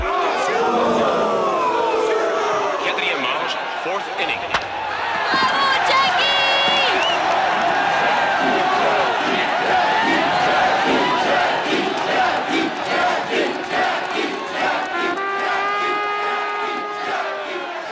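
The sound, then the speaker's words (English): A packed stadium crowd of Montrealers roars and cheers without pause as Jackie Robinson, the Royals' second baseman, comes up to bat, a loud, dense wall of voices with sustained shouts and whoops rising above the din now and then. “Record numbers of cheering Montrealers helped Jackie Robinson break baseball's color bar that year.”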